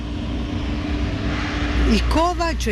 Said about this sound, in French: Et donc c'est un balai incessant de camions-citernes.